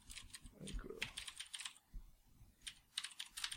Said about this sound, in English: All right, we can cut this out because I'm typing.